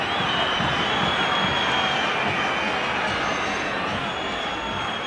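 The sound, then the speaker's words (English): A huge stadium crowd at a football match roars in a dense, steady wall of noise after a shot goes over the goal, with whistling and heckling voices blending into the din for the whole stretch. “And this is when the crowd just starts whistling and heckling.”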